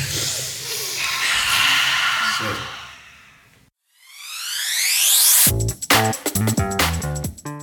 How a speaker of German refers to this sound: Jetzt nochmal alle noch tief einmal bewusst atmen.